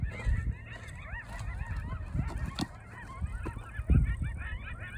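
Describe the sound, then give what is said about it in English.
A frantic chorus of coyotes screeching and screaming on a trail at South Mountain in the desert, many wavering high-pitched cries overlapping without pause, over a low rumbling background with a few sharp knocks. “They gotta be coyotes.”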